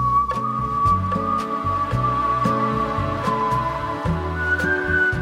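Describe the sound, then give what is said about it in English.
A person whistles a slow, sustained melody with long held notes that glide upward near the end, over steady backing music with bass and light percussion. “Over the years, just because I've been whistling, I have had some incredible interactions with people and animals that have felt very magical.”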